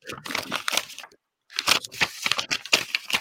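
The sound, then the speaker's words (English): Crisp paper rustling and crinkling in irregular bursts, with a brief quiet pause midway before the handling resumes, busy and fairly loud. “All this paper shuffling.”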